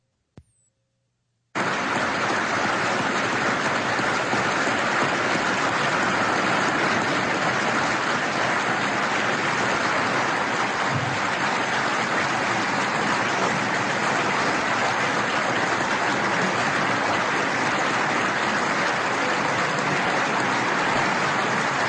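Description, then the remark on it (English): After a second of near silence, a large audience at a C-SPAN-covered event bursts into applause for what Mother Teresa said: many hands clapping in a dense, steady roar that stays loud for about twenty seconds, with no talking. “Well, you're not hearing static on your radio. This is a whole bunch of hands clapping right.”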